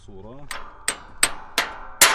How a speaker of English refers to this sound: takes a break from plowing to hammer a busted tractor part back into place.